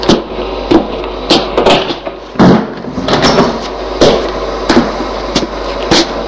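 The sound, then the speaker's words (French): A home's front door is opened and shut as a mother lets her son in, with a string of sharp knocks and thuds, a clattering latch among them, over a low steady hum. No one speaks. “C'est sa mère qui lui a ouvert. Bonjour, ça va ? Elle le fait rentrer et ferme la porte.”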